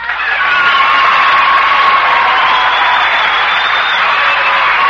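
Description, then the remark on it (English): A studio audience applauds and cheers steadily for guest star Danny Kaye, a dense, loud wash of clapping with whoops and shouts rising through it, sustained without a break for the whole stretch. “did you notice that Mr. Danny Kaye got more applause than Danny Kaye?”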